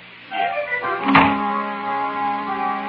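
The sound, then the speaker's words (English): A double door swings shut with one dull, heavy thud, preceded by a brief creak, while a steady, sustained musical drone continues underneath throughout. “Would you mind closing the D double door?”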